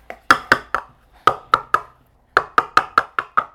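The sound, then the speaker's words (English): Sharp hollow clacks of cups knocked together, in three bursts of about three to six quick hits each, with short pauses between groups and no talking. “Banging the cups together.”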